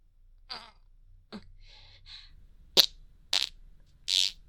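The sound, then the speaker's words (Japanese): A few short, close farts pop out in quick succession, the last one longer and more drawn out, following some soft breathy sounds with no talking. “そしたらまたおならを。”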